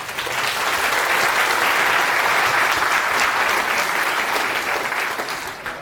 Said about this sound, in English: So a round of applause for Federico.